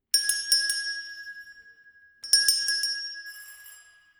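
doorbell ringing

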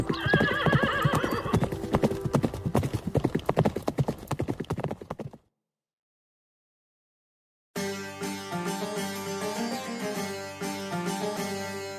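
horse galloping hooves

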